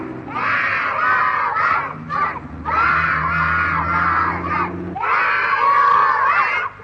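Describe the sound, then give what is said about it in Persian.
A group of voices shouts together loudly in long sustained bursts separated by a couple of brief pauses, with a low steady hum underneath; in a Kiarostami film, friends shout so that a hard-of-hearing old man without his hearing aid will hear. “میگه اگر کم شنوایید اینها صدای فریادشون رو به گوش شما خواهند رسوند.”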